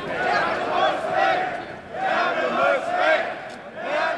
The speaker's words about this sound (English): After we part ways, a shout goes up through the crowd.